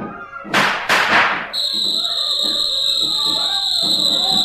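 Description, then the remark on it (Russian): Two loud, sharp gunshots crack in quick succession, then a steady high-pitched whistle takes over and holds to the end, with faint voices murmuring underneath. “Кто свистел? Кто стрелял?”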